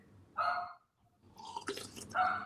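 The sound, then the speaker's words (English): A dog barks twice, short and fairly loud, with a scuffling, splashy rustle in between the two barks and no talking. “Your dog, bro. So whose dog needs.”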